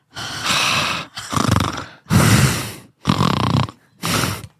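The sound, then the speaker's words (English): A voice imitates the heavy, raspy breathing of a woman who stays silent on a phone line: five loud breaths in a steady rhythm with short pauses between, some with a snoring, throaty rattle. “She just like, she's like breathing on the other line.”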